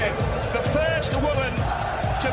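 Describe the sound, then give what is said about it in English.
An arena crowd at a darts match cheers after Fallon Sherrick nails the winning double, the first woman to beat a man, in a steady, dense roar, with higher shouts and whistle-like cries rising above it and dull low thumps pulsing underneath at a regular beat. “Listen to that crowd go.”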